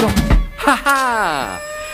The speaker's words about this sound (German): Ja, das Telefon schellt. Ich gehe erstmal nicht dran.